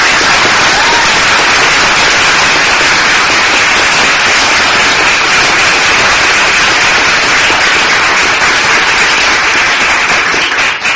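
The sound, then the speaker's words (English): Loud, sustained applause from a large crowd, a dense crackle of many hands clapping at once that holds steady for about eleven seconds with no speech over it, greeting the announcement of a Park Police officer's promotion at a Park and Planning Commission event. “I hope you'll all give him a terrific round of applause.”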